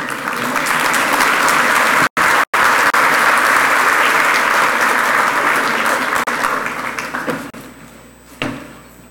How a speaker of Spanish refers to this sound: Para él un caluroso aplauso, por favor.